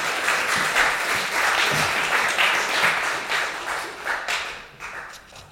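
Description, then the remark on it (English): A crowd applauds two people with steady, dense clapping that holds for several seconds, then thins out and fades as individual claps trail off near the end. No one speaks over it. “Shall we give you two a round of applause as well?”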